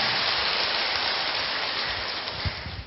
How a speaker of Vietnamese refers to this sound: Rồi, cho một chàng pháo tay thật to.